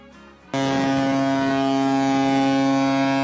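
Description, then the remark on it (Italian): A ship's horn blasts suddenly after a brief quiet moment, then holds one loud, steady, deep tone with rich harmonics that continues unbroken to the end. “Ma la nostra sirena ha annunciato che è il momento di passare alla seconda rubrica, la notizia.”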